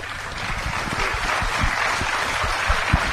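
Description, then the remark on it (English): A crowd applauds steadily to thank guests Rear Admiral Patrick McGrath of the United States Navy and John Crowley of the United States Marine Corps, a dense wash of many hands clapping at an even loudness throughout, with a few sharper individual claps standing out. No one speaks. “Let's thank them.”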